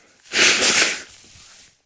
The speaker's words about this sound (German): Tut mir leid, das kommt jetzt durchs Husten.